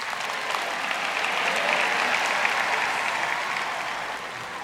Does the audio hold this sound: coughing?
no